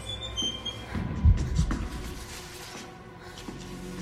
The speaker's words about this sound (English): An electricity point sparks.